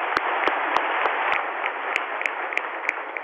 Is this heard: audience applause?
yes